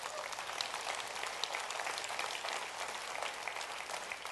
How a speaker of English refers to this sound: How many of you know God deserves a round of applause for that?